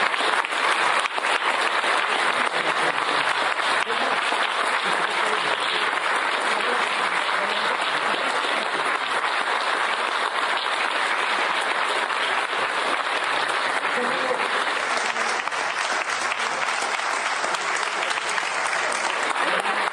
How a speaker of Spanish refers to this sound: Fueron aplausos, fueron selfies, fotografías, dándole la bienvenida a Edmundo Jacobo y celebrando la primer victoria sobre el plan B electoral del presidente López Obrador.